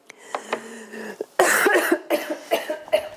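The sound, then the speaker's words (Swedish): A woman coughs and clears her throat repeatedly during a television studio interview, a rough burst of loud coughing in the middle followed by several shorter throat-clearing rasps, with no other talk. “Hon hostade.”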